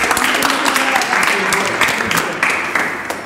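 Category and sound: crowd, audience applause of encouragement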